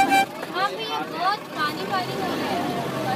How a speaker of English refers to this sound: And that's what it sounds like at 7 a.m. to ride one of the six school buses that carry those 900-plus students to school 6 days a week. You do the math. On a bus with 42 seats, there were over 100 kids, plus three of us.